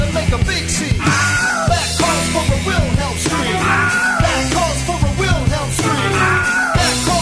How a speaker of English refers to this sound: That calls for a Wilhelm scream. That calls for a Wilhelm scream. That calls for a Wilhelm scream. Scream a little louder.